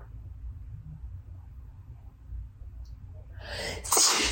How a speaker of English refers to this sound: Oh, I'm gonna sneeze. Oh, my God.